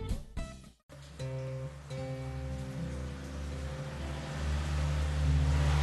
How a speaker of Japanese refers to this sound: さあエンジンをかけて新しい旅へ出発しましょう。